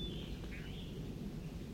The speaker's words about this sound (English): Bird 4-3 singing.